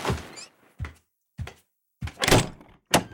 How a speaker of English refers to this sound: Opening the door just enough for her to enter, he locked it behind her.